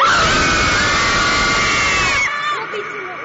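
A group yells one loud, sustained "aaa" together for about two seconds in Postojna Cave, then the shout cuts off and a long, ringing echo of about six seconds lingers and slowly fades.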